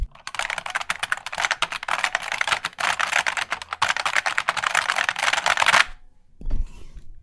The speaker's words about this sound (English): Yeah, but listen, keyboard nerds who have an overlap with music skills, if you can make a rave song composed entirely out of clicky keyboard sounds and send it, that would make me very happy.